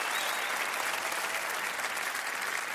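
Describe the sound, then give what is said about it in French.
Steady, dense applause from an audience, a continuous crackle of many hands clapping at an even, fairly loud level for a few seconds with no voices over it. “Je te vois heureux, je te vois. Avec des gens qui t'applaudissent.”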